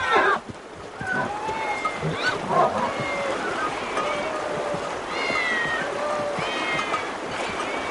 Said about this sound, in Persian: این همه گربه اینجا چه میکنن؟ خدای مردم این شهر گربه است. اینجا معبد شهر میباشد، شهر بسته. مردم اینجا گربه را خیلی دوست.